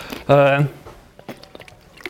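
A quick sip of water: a brief hummed, voiced sound with soft wet mouth noises, followed by faint swallowing clicks, with no talking.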